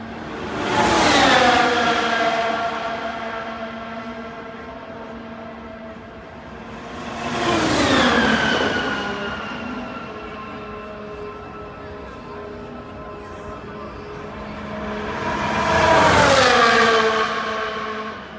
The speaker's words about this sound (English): But you're going to hear the cars race by because they're doing time trials right now in practice.